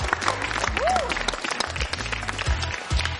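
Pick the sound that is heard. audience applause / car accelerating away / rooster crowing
audience applause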